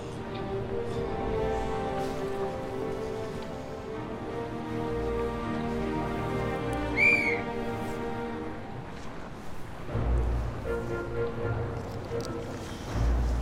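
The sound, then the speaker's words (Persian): Rough sea waves churn and slap continuously around a vessel heading to Operation Dragoon, the attack on southern France, heavy surges swelling now and then over a steady droning engine and blustery wind noise; no one speaks. “اعصابم خورده و موجای سخت دریا هم کمکی نمیکنه.”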